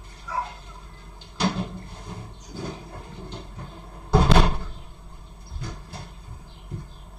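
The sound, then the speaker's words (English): A door swings shut with one solid, loud thud near the middle, surrounded by softer knocks and handling clatter from the latch and frame, with no talking. “Hang on, I close the door because I have some chickens and they drive me mad.”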